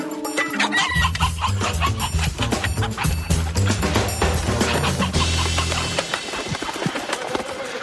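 chickens clucking

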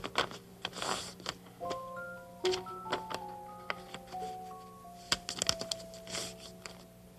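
paper being folded

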